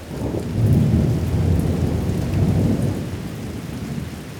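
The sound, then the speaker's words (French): Steady rain pours continuously, a dense hiss, while a deep, rolling rumble of thunder swells and fades underneath. No voices. “Moi, j'aime pas spécialement la pluie.”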